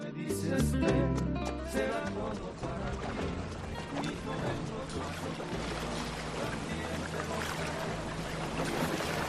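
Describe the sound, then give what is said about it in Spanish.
Steady rushing and bubbling water from the thermal waters, circuits and jacuzzis of Ki Spa Baracaldo fills the whole stretch at an even, fairly loud level, with indistinct voices mixed into the wash. “Y esto que escuchas no es justamente la lluvia de la calle, es el sonido de las aguas termales, circuitos, jacuzzis.”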